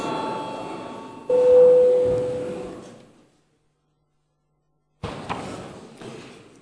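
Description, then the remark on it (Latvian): An electric session bell in the Latvian Saeima (parliament) rings at the chair's request before deputies' attendance registration, with a steady, resonant tone for about three seconds. It swells louder partway through, then fades into silence before a second broad burst of ringing begins. “Lūdzu zvanu.”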